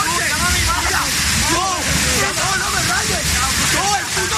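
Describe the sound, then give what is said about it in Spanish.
A loud, steady roar of rushing floodwater from the DANA storm floods in Arganda del Rey pours on without pause, a dense torrent filling the whole clip, with faint indistinct voices rising and falling beneath it. “Impresionantes riadas que se llevaban casi todo por delante, y si no recuerda este sonido.”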